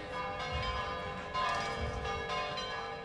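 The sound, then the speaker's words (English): Church bells in Rome's historic center toll loudly and continuously on a Sunday, several overlapping rich metallic tones ringing together with long, shimmering sustain and a steady clanging rhythm, no voices present. “In Rome's historic center, the bells toll for churchgoers and devoted hoopsters.”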